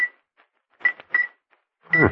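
A silver pencil taps a crystal bell, with its clapper taken out, several times at an uneven pace: short, dull clicks with a brief high tick, each dying away at once instead of ringing. No voices.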